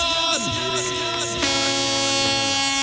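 A loud, brassy fairground ride horn blares without a break, its pitch wavering and sliding during the first second and a half before settling into one steady, buzzing tone.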